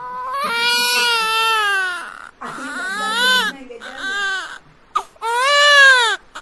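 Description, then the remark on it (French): A baby just born at the maternity ward in Bambio, south-west Central African Republic, wails loudly in several long, rising cries separated by brief breaths, with strained, high-pitched sobbing and no other voices. “Nous sommes à la maternité de Bambio. Un bébé vient juste de naître.”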